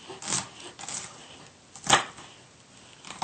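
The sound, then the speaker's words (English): Irregular knife chops land on a cutting board as a small shallot is diced into fairly small pieces, a few soft taps and one sharper, louder strike near the middle, with quiet gaps between them and no talking. “Just like the jalapeno, we want to dice this into fairly small pieces.”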